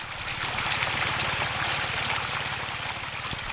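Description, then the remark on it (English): In Eritrea, water runs steadily through a small irrigation channel into a neatly planted bed, a continuous rushing trickle with a low, rapid pulsing throb underneath and no voices. “Water runs through a small channel into a neatly planted bed.”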